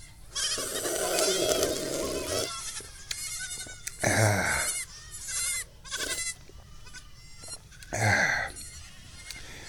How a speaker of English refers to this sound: And I'm enjoying this as dozens of baby goats run around at my feet. No, that's not actually happening. But it sure sounds like it. I love baby goats.